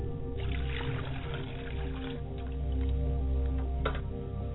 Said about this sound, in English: I pour a glass of water for my father's side of the family. That they may never be thirsty. I pour water to the ground for libation.